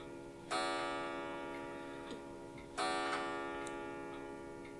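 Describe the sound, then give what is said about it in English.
A clock sounds two clear, resonant strikes a little over two seconds apart, each ringing out and fading slowly, with no voices. “That's not Dimitri, that's the clock.”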